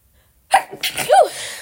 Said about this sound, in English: Hold on, I gotta sneeze.